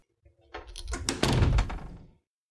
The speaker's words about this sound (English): You may close the door now.